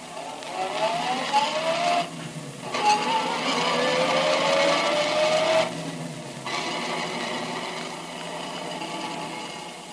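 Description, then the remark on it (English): The engine of Detective Tracy's car revs and climbs in pitch as it accelerates through a couple of gear shifts on the drive to Jess Trueheart's home, then settles into a steady, fairly loud drone of driving with no voices. “We know, but Tracy does not, that Remo lies concealed in the back of Tracy's car while the detective drives to Jess Trueheart's home.”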